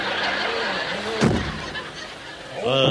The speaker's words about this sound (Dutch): Nou, daar gaan we weer. Deurtje open. Afreageerkamertje in.